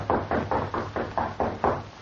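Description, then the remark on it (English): A light knock on the door of a room above a blacksmith shop, about eight quick, evenly spaced raps in a steady rhythm, with a low hum running underneath and no voices. “Then he replaced it carefully on the wall, just as a light knock sounded at his door.”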